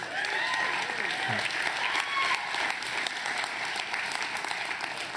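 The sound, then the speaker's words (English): An audience claps for God in sustained applause, a dense wash of many hands clapping steadily at an even level, with faint cheers and voices mixed into the crowd noise. “I don't feel like I can clap for God enough for that.”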